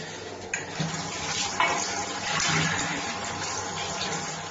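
water running

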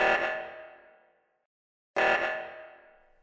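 phone ringtone

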